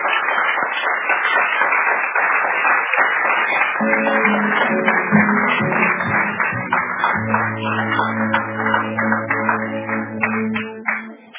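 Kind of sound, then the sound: crowd, audience applause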